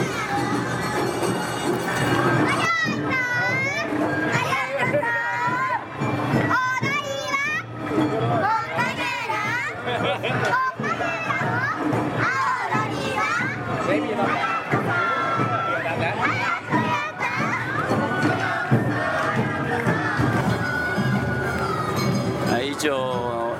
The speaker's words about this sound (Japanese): 雨の夏祭り1日目、阿波踊りの模様でした。